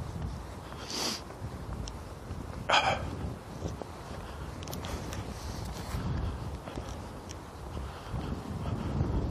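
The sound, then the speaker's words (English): Roofing hammers, from new roofs being put on condos across a park about half a mile away, snap at irregular intervals on a mild, breezy morning: two sharper echoing strikes early on and fainter scattered taps after, all over a steady rush of wind noise with no talking. “I can hear the hammers snap, snap, snap. They're echoing.”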